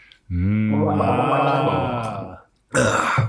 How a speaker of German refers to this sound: Schlucken ist Liebe, gurgeln ist zu viel, oder wie?